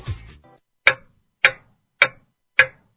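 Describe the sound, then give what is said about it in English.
A clock ticks four times at a steady, even pace, each tick a crisp, loud click, following a brief rustling sound at the very start. No voices are heard. “Hurry, time is ticking.”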